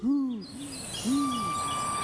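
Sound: owl hooting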